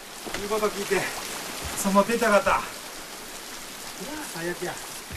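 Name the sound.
heavy pouring rain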